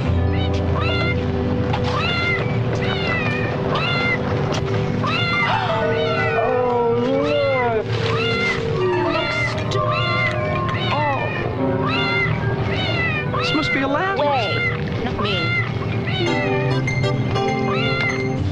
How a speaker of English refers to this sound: Here's a little montage that Avril made of some of the cat meowing